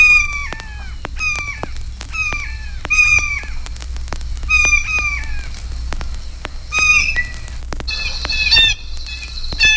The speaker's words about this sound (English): The notes of the blue jay vary from raucous screams to soft conversational chatter.